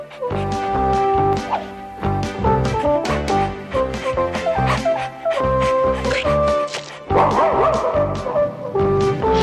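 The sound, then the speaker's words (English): Small puppies bark and yip in quick, overlapping bursts, loud, with a few whimpers mixed in and barely a pause throughout. “When he wasn't sleeping, the big blue cat liked to engage in his third favorite pastime. Annoying small puppies.”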